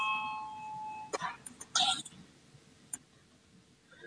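parliament voting bell ringing

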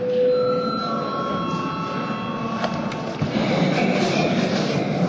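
parliament session bell ringing

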